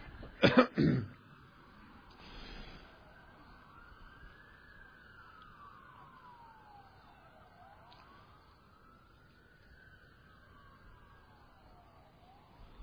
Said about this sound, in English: Lord, we always hate to hear these sirens. We know that they are going to a desperate situation of one kind or another that involves human beings just like us